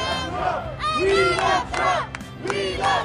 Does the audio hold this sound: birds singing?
no